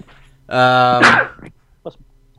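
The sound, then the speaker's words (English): One loud sneeze: a drawn-out, voiced "ah" building up, then a sharp, hissy burst that fades quickly, followed by a brief faint sound and quiet. “Bless you.”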